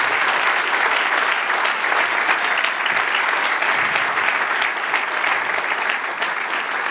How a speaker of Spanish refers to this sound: Y cuán hermosos son los que viven para Dios y en Dios. Dame un aplauso, Señor.